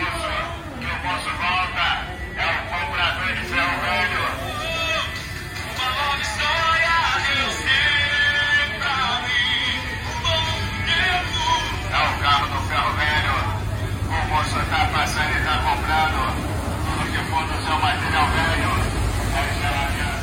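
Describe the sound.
A loudspeaker van blares a gospel song mixed with an amplified announcing voice, loud and continuous, over a steady low rumble of street traffic.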